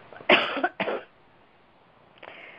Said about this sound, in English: I'm going to cough again.